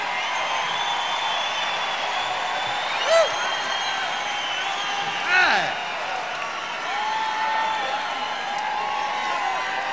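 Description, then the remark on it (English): A crowd cheers wildly in a steady, dense roar of many voices, with two sharp whoops rising above the din partway through. “I thought I was in like Las Vegas the way this crowd's going crazy.”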